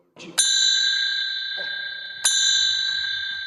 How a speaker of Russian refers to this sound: Для чего нужны скамьи и зачем священник звонит в колокольчики перед службой?